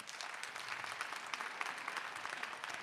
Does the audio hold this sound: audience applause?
yes